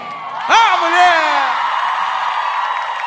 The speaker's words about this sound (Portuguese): Uma salva de palmas, menos é mais!